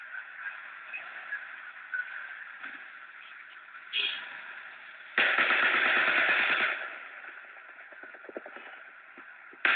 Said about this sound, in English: That's the gunfire in the background. Yeah, it sounds like it's coming from farther away.